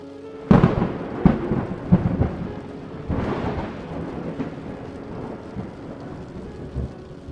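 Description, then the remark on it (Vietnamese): Steady rain falls in a dense, continuous hiss, broken by several loud, sharp thunder cracks and deep rolling rumbles. No one speaks. “Trời mưa suốt cả ngày, y tá Vân ngồi một mình trong phòng khám.”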